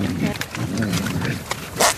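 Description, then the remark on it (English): A big, low fart rumbles out for most of two seconds, buzzy and growl-like with a wavering pitch, ending in a short hissy burst. “Was that the sound of a big fart? Yes, that was a big fart.”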